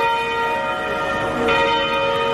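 Large church bells of St George's Cathedral in Cape Town, South Africa, ring continuously in memory of Desmond Tutu, sounding for 10 minutes; overlapping tones sustained and resonant, forming a dense, steady peal with a fresh strike midway; no voices.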